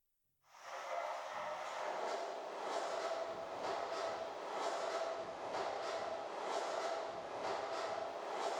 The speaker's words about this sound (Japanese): あれ、動きを止めてどうしたの？電車の音？